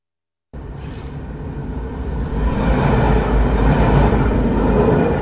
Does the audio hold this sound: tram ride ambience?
yes